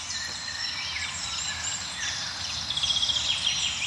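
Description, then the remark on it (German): A mellow chorus of several blackbirds singing at once from high above, their overlapping phrases forming a continuous layer of song, with a brief run of quick repeated notes near the end. “Ja, wir hören so einen milden Amselteppich noch um uns herum, also so einen Klangteppich aus verschiedenen Amseln, die von weit oben singen.”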